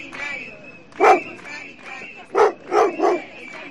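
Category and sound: animal, dog barking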